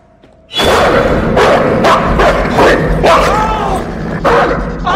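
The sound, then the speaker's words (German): A dog barks and growls loudly, with repeated sharp barks over a continuous rough snarl, starting abruptly after a brief quiet moment and continuing throughout. “verfolgt von dem knurrenden Hund.”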